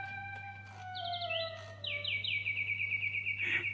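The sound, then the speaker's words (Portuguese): A wind-up mechanical bird sings in bright, high-pitched trills of rapid repeated chirps, steady, over a constant low electrical hum with no voices. “Oh, é um pássaro de corda!”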